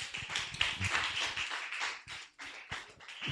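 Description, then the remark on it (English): A group claps for Jesus during a Christian sermon in a dense, steady burst of applause, many overlapping hand claps forming a continuous crisp patter at moderate loudness, with no voices audible. “Clap for Jesus.”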